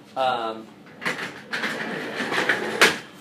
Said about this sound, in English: Can you stop this squeaking? Sorry. that's a squeaky chair.